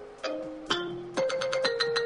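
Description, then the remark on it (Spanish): A phone ringtone plays on its own: a bright electronic melody of several quick, clear tonal notes, loud, with no voices. “La llamada que es que este es mi ringtone, la llamada que no quería recibir, que nos está enviando a corte, radio escuchas.”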